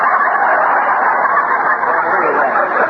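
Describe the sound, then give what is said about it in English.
A loud, dense flock of chickens clucking and squawking all at once, a steady busy racket that continues without a break from start to finish. “Well, you can't expect me to chase chickens with a zipper under my arm, can you?”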